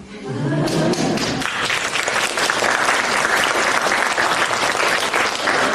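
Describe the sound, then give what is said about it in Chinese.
A voice speaks briefly before an audience breaks into loud, sustained applause, a dense wash of many hands clapping that continues steadily to the end. “我没讲到你们鼓掌，我说我就不会非常担待的。”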